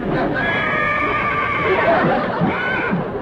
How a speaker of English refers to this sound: Well, I thought I heard a horse.